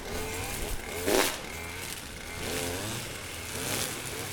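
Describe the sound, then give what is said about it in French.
A small petrol mower drones steadily at the Villa Virginie, its engine pitch rising and falling as men in harnesses, hanging from ropes, mow grass on a very steep slope, with a brief harsher burst early on and no voices. “Là, des hommes en baudrier, accrochés à des cordes, tondaient l'herbe sur un terrain très en pente.”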